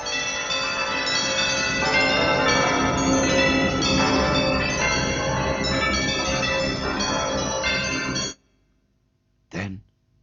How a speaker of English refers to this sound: It swung so softly at the outset that it scarcely made a sound. But soon it rang out loudly, and so did every bell in that huge empty house.